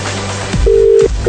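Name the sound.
telephone being dialed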